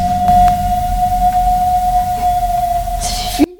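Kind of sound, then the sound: animal, whale call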